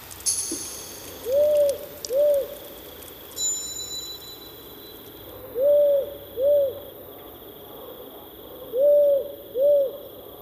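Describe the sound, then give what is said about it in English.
As it gets dark in Bootery National Park, a powerful owl calls across its broad territory: a deep, slow double hoot, 'whoo-hoo', repeated three times at steady intervals, clear against a quiet night background with faint insect chirring. “And as it gets dark, a powerful owl can be heard, calling across its broad territory.”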